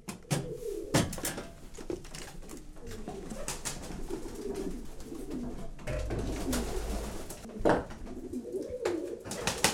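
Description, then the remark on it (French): Several pigeons coo in low, overlapping murmurs inside a pigeon loft, with occasional sharp rustles and wing flutters punctuating the steady cooing. “Lorsque vous entrez le matin dans votre pigeonnier, vos pigeons vous regardent, vous les regardez.”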